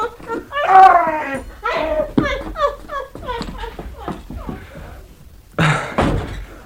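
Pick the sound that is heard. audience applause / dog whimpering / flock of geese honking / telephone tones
dog whimpering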